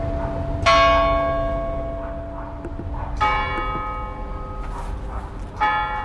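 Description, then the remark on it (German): Church bells at the market in Aschersleben ring out in three heavy strikes spaced a few seconds apart, each leaving a long, humming resonance that lingers over a low background rumble. “Das Glockenläuten am Markt.”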